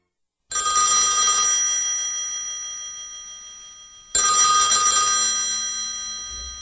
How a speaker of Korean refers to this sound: 병원에서 검사를 받고 며칠 후 전화가 왔다.